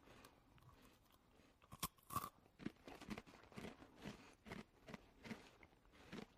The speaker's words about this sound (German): Ja, erstmal, während ich hier meinen Blätterteig, Käsestange esse.